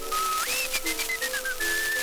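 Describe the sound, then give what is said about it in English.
A person whistles a short melodic tune, the pitch gliding up and then stepping down through a few held notes, clear, with no talking. “would whistle in this way”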